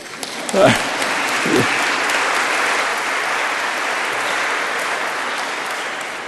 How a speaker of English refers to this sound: How cool is that? Don't you think that's worth a clap?